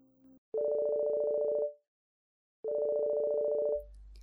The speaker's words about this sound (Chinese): 床头的手机不合时宜地响起